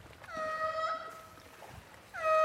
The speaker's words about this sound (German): wenn du dich jetzt umdrehen würdest und wir hören einen der Seelöwen, eine der Robben